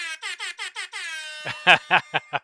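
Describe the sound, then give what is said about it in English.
An air horn sound effect from a phone app plays a quick stutter of five short, bright blasts, then a held note, ending in a few louder, harsher bursts. No one speaks over it. “horn on your phone, so that way anytime you get some big ultra mega play, you can hype it up like morning zoo radio.”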